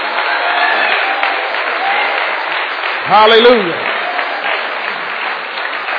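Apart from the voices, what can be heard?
audience applauding and clapping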